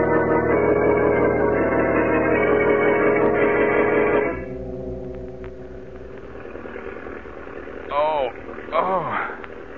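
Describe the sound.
A loud, steady airplane engine roars for several seconds, then drops to a lower, quieter drone that hums on; it is the engine of a man's plane at high altitude, with the speakers aboard. Brief voices break in near the end.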